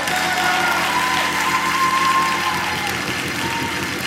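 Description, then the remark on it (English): An audience claps hands in praise, a dense, steady burst of applause that holds loud for the whole stretch, with a faint sustained tone running beneath it and no talking. “Come on, if that's for you, give him a hand clap of praise.”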